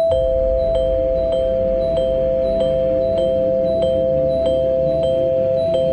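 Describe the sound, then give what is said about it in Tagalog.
A red doorbell at the green gate of an old house rings without pause as a boy presses it over and over, a steady electronic tone carrying a quick, regular pulse. It sounds fairly loud, with no voices. “Walang pag-aatubili ay sunod-sunod na pinindot ni Alvin ang doorbell.”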